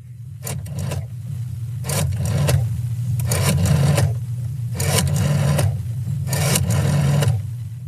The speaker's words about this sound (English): Oh, wait, is that a rotary phone? Yeah. You got it. Not too many kids even know what that is anymore.